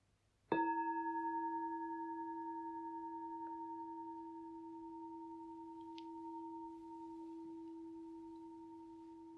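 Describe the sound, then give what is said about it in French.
A single bell is struck once during a Sangha practice, marking the moment for everyone to greet one another; its clear, steady tones ring on and slowly fade over several seconds with no other sounds or voices. “Prochain son de cloche, nous allons nous saluer.”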